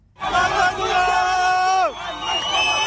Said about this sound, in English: Crowds have gathered, singing and chanting, blaring car horns and carrying placards.